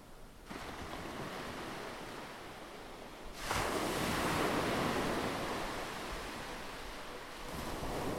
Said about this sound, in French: Alors, imaginez les vagues, imaginez les embruns, imaginez la sensation du sable sous vos pieds et pensez à elle.